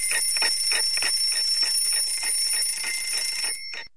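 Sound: alarm clock ringing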